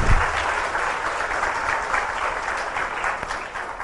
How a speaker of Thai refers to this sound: กรุณายืนขึ้นด้วยครับรับเสียงปรบมืออันสูงสุดของพวกเราด้วยครับพี่น้องภาคกลางทั้งหมดครับ